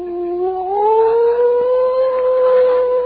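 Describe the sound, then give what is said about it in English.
A man imitates a coyote howl: one long, loud, wavering vocal tone that slides upward and holds for about three seconds, alone with no talking. “I was in the Coyote Patrol.”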